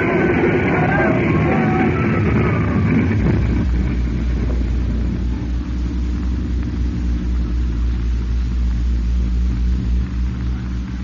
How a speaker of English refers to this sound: we're going to crash. That hangar, we're going to hit it. Look out!